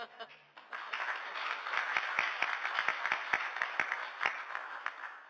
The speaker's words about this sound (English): So I think, frankly, that demands a round of applause.